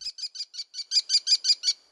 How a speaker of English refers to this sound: Today we're going to listen to the American Kestrel.